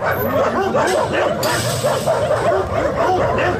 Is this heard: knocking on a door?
no